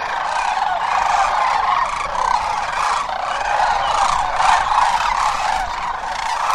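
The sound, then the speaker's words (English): A large flock of sandhill cranes, gathered by the thousands along the Platte River in Nebraska while migrating north, calls continuously, dense overlapping rattling bugles blending into a steady loud chorus with no pauses and no talking. “And if you need a little help imagining what all those cranes look like, here's what they sound like.”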